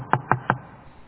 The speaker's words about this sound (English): I was home about a half hour, getting ready to go to bed, and a knock came on my door.